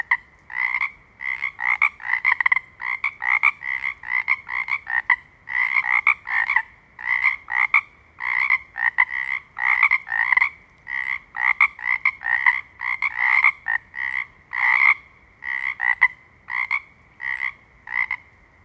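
Frogs croak in rapid, overlapping bursts, a dense chorus of raspy calls pulsing steadily from start to finish, loud, with no voices.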